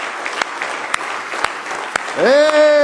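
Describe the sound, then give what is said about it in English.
An audience claps steadily in praise of the Lord Jesus, a dense, continuous patter with a few sharper slaps. Near the end a sustained voice swoops upward and holds a loud note over the clapping. “Let's give the Lord Jesus a wonderful hand clap of praise.”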